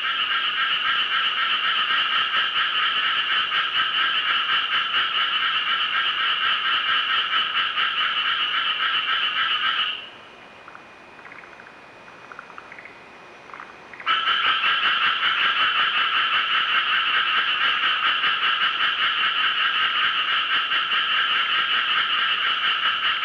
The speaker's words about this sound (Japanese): こちらはとある小学校前で録音したのですが、数匹いると思われるカエルが一斉に鳴き始め、一斉に鳴き止んでいました。